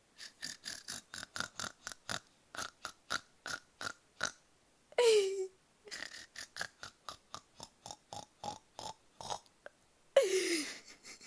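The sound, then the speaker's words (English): Someone imitates a pig's grunting with a quick, steady run of short, rough snorting grunts. Twice the run breaks into a longer, raspy burst that slides down in pitch. “Does that sound like a pig?”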